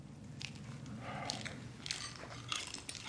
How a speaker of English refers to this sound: Zeke tears a piece of fried chicken in half, glances at Martha, then pops some into his mouth